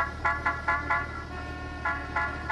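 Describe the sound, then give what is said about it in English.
A car horn honks in short, insistent bursts, four quick toots then three more after a brief pause, over a constant low rumble of road traffic. “It actually begins with hating traffic.”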